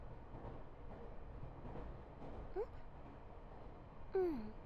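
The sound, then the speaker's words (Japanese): Steady low rumble of a packed, crowded commuter train in motion, heard from inside a carriage, continuous and fairly quiet, with faint murmuring and two brief rising and falling squeals near the end. “満員電車だから仕方ないじゃん。”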